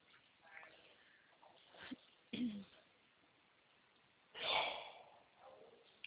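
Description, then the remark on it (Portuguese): A single loud, explosive sneeze bursts out after a couple of short sniffing, breathy sounds, with faint background murmur throughout. “Saúde!”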